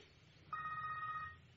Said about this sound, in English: That. Your purse is ringing.